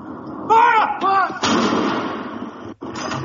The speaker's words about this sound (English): Batteries of cannons in London, Edinburgh, Cardiff, Belfast, and other cities fired 41 rounds.